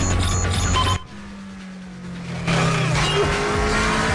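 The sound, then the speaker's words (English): Loud engines of a fleet of police squad cars roar past, with a steady low drone dipping briefly before another surge of revving, squealing tires and rushing road noise as the cars race along the road together. “The fleet of squad cars race up behind,”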